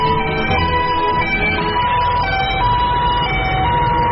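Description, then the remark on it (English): Sheriff vehicle sirens wail continuously outside in a residential community during an evacuation, overlapping tones rising and falling over a steady low rumble of traffic, fairly loud and sustained throughout with no talking. “The sheriffs are in the community. They got their sirens on, and they're telling all of us that we gotta leave now.”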